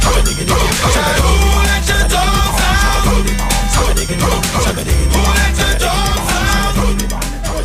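A loud, upbeat pop song plays close up with a thumping bass beat, driving rhythm and a shouted group chorus of voices barking like dogs, with no talking over it.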